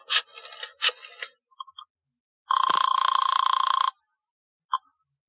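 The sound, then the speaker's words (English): A telephone is dialed with a burst of clattering clicks to call Professor Leonardo's psychic sanctuary, followed by a loud, trilling bell ring lasting just over a second, then a short final chirp. No one speaks. “Oh, want to use the phone?”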